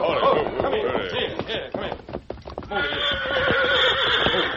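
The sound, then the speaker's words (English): A horse whinnies loudly and repeatedly, its wavering neighs carrying over a steady clip-clop of hooves. “There's a horse grazing ahead.”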